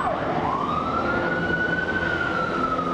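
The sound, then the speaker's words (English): A police siren wails through steady street and traffic noise outside a school, its pitch climbing then holding high in a long, sustained tone. It is fairly loud, with no one talking. “We're standing outside of your school, and there are police sirens going by, a police helicopter.”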